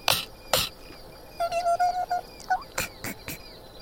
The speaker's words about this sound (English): The bee that stung your tongue, he's...